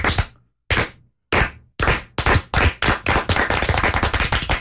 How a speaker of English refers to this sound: Hey, you guys, congratulations. Let's start this week with a Rudy clap.